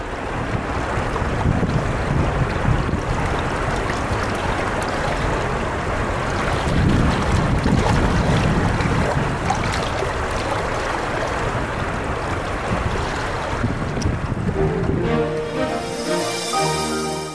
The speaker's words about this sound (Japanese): 春になり山の雪が溶け、豊かな水が川を流れています。国の重要文化財に指定されている木干しのもと、川のせせらぎに行き交う自動車の音が混ざってくるのも、市内中心部を流れる中津川らしい音ですね。